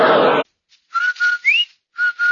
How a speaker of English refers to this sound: Did I hear what? That whistle. That's the Rinso White Whistle. And Rinso means us.